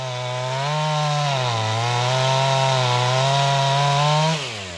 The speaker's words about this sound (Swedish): med sin motorsåg röjer undan nerfallna grenar in till den gamla logön på Karklö.